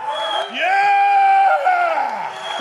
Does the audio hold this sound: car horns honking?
no